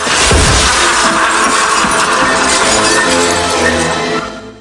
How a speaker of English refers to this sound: dives through the window, falling about 100 feet onto a glass table.